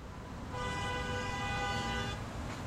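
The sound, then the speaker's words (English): One sustained car horn blast, about a second and a half long, sounds over a steady rumble of city traffic that continues before and after it. “There are cars, trucks, and buses everywhere, jamming into parallel parking spaces in Center City, Philly, fighting pedestrians near the Boston Common.”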